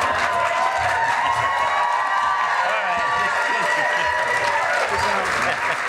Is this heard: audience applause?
yes